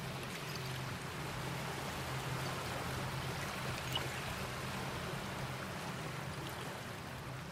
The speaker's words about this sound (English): I think my favorite part of coming down here actually is sitting quietly and listening to the water come in, because you can hear it, the tinkling noise of broken glass as the water comes in. Usually around dusk it sounds more, the ambient music.